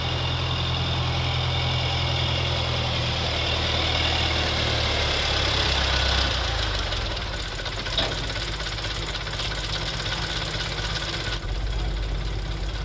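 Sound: tractor engine idling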